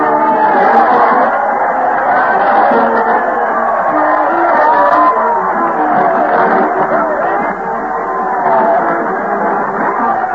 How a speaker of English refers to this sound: Crowd cheer as Fred Allen leads the parade to the old town hall. Fred's conducting the band with a big sword, followed by those dull blades of the boards, the mighty Allen art players. Let's join the shouting throng.